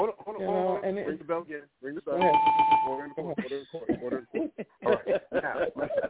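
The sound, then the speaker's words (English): A bell rings once with a clear, sustained tone lasting under a second, partly under people talking, who keep chatting before and after it. “Ring the bell again.”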